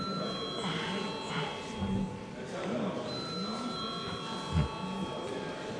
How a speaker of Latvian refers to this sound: Paldies, lūdzu zvanu.